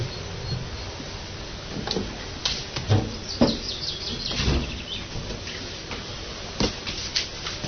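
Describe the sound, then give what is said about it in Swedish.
Scattered bird chirps outdoors, faint, mixed with soft clicks and a steady background hiss. No one speaks. “Fåglarna kan man höra här.”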